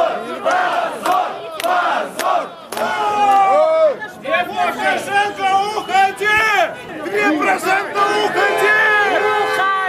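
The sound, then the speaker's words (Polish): A large crowd of people gathered in the streets and squares of Belarusian cities chants and shouts that it is a disgrace, loud overlapping voices rising in rhythmic bursts with a continuous roar of many people between the calls. “Ukradziono nam nasze głosy, mówią ludzie gromadzący się na ulicach i placach białoruskich miast i skandują, że to hańba.”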